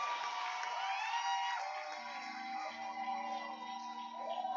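A church audience claps hands steadily for several seconds to welcome a woman coming up to give a testimony, a dense, continuous patter of many hands with a few cheers and voices mixed in, fairly loud throughout.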